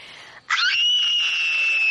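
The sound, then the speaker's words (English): After a brief pause, a person asked for a scream lets out a loud, sustained, high-pitched scream that holds steady until the end. “Do you have a good scream? I think so. Can I hear it?”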